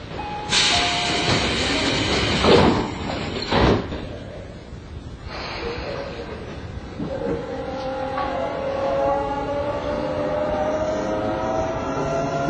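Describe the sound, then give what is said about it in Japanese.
A Tobu Railway commuter train running through onto the Hibiya subway line, bound for Naka-Meguro, heard from inside: loud rumbling and hissing bursts early on, then a steady roll on the rails as a rising electric motor whine builds with acceleration. “この電車は地下鉄日比谷線直通武駅停車中目黒行きです。”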